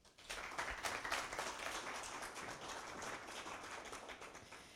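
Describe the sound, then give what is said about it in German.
An audience at a talk breaks into steady applause, many hands clapping at once in a dense, continuous wash that holds at an even level for several seconds. “Applaus.”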